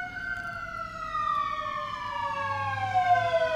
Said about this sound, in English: Every show we have these sirens. Every show. Never fails. So you know it's live here at Bike Sport Radio, right from our studios in Koreatown. The sirens at noon. Always going by.